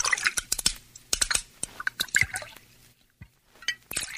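Bourbon is poured into a large pitcher of strained mint syrup, with irregular wet drips and small splashes that fade toward a brief quiet near the end before a few more drops.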